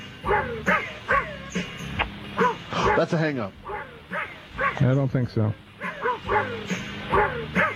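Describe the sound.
A recording of dogs barking and yipping in a rhythmic, tuneful pattern, the pitched barks arranged like a song, while a voice briefly speaks over it.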